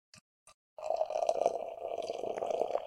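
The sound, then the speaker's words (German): Hazy beer pours steadily into a glass, a continuous gurgling splash lasting a couple of seconds, preceded by two brief, faint clicks. “Und ich schenke mal so ein bisschen ein.”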